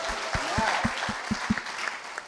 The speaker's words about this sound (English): Give me a hand, ladies and gentlemen.